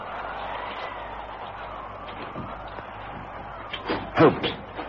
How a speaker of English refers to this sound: I'm going to push this door open.